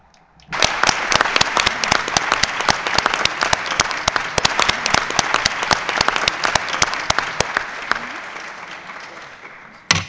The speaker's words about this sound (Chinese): 那么，我是否可以认为，毕拉·阿赫迈德·巴基斯坦大使先生阁下被选举为76届执委会主席团第一副主席？通过，鼓掌通过。